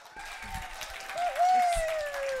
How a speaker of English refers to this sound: So I would like you to join me in giving a huge round of applause